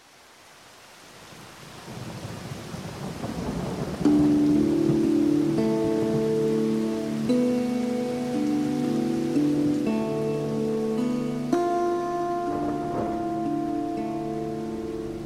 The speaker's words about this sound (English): Hala stood in the black rain outside the landlord's door. Cold, sooty water soaked her tunic